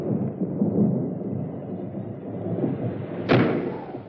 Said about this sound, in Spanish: Llegan a la puerta de sus murallas y atraviesan un pontón levadizo. El caballero cierra la puerta.